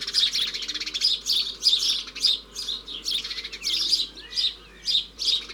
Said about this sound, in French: 12 juin, 8h du matin, nous sommes sur la place d'un petit village, devant une maison couverte de vignes vierges, et dans la vigne, il y a plein de moineaux.